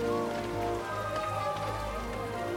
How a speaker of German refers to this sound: Das kühle Nass aber erfrischte die Erde. Die Pflanzen ergrünten wieder, die Tiere stillten ihren Durst und die Menschen tanzten im Regen.